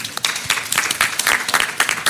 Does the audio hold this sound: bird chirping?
no